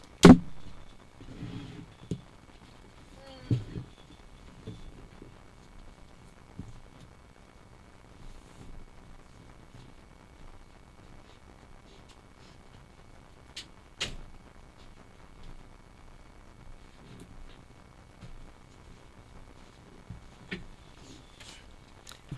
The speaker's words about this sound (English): I have to close my door. Scott left it open.